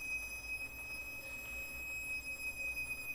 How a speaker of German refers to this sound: Wir stehen jetzt hier am APUS I2 und es pfeift. Was ist das eigentlich? Das ist das Wasserstoff, was von den Speicherbündeln überströmt in die Flügeltanks, dass wir dann später die Tests damit starten können.